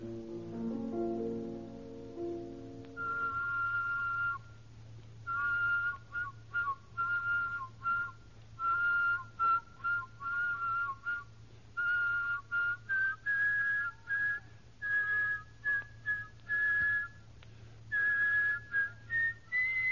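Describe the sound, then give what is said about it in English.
A person whistles two tones at once, carrying a double melody in short, separated phrases of clear notes, heard alone over a faint steady low hum. “But counterpoint whistling requires two completely independent whistles in second, third, fourth, in fact, all of the intervals.”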